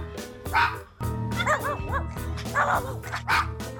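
animal, dogs barking and yipping

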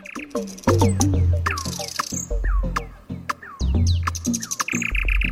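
bird, nightingale singing

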